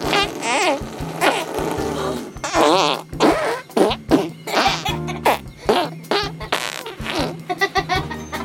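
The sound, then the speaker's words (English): A long run of loud fart noises made by a person showing off a fart-noise talent, one buzzy, sputtering burst after another in quick uneven succession, with no talking in between. “The fart talent.”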